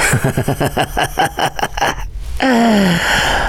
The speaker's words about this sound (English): I can barely tell over the sound you're making. That slight whimpering. That panting like you didn't bring yourself here.